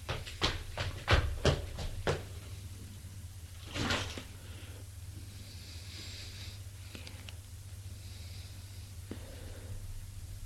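front door being opened

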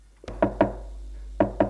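knocking on a door

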